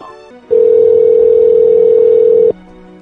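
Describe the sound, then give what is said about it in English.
A telephone answering machine tone: a loud, steady, mid-pitched beep holding for about two seconds, preceded by a few brief, quieter tones, with a faint low hum continuing after it stops. “A message at the tone.”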